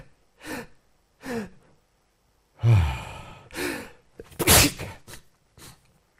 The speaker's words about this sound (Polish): Coś mi zaschło chyba w nosie i nie mogę się tego pozbyć do końca. I to powoduje, że bierze mnie na kichanie. Ja bardzo przepraszam. Kicham.